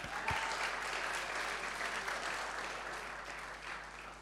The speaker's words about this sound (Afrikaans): Kom ons klag hier die Here daarvoor, hande klap.